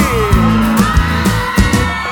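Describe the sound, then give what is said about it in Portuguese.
A crowd yells and whoops together in response to a singer asking those who are single to raise a hand and shout, a loud, sustained burst of cheering mixed with music playing underneath, with a few sharper shouts popping out over about two seconds. “Quem tá solteiro, joga a mão e dá um grito aí.”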